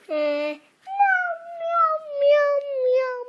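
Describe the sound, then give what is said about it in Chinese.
A voice imitates a cat's meow, giving a short nasal call followed by a longer drawn-out, wavering meow, fairly loud with no other sounds around it. “它怎么叫？ 奶奶奶奶奶奶。 那猫猫呢？”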